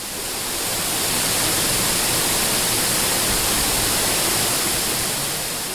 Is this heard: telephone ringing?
no